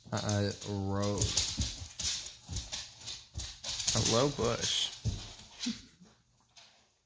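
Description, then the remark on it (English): A puppy lets out high, wavering whines and yips in short bursts, with a person talking over it and sharp clicking noises scattered throughout. “That's just the puppy in the background.”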